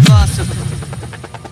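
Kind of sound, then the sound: vehicle, helicopter rotor sound effect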